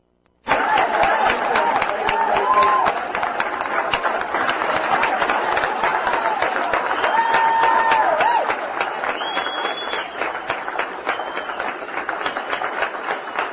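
A crowd claps steadily for about thirteen seconds, a dense, even wash of hand claps that starts abruptly, holds loud throughout and eases slightly near the end, with faint voices mixed in.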